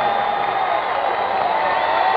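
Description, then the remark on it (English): A large crowd of thousands of Democrats roars in a sustained ovation for the president at the evening's first address of his re-election campaign, cheering and applauding steadily at a loud, even level with no pauses or speech standing out. “he's now receiving the enthusiastic ovation of these thousands of loyal Democrats.”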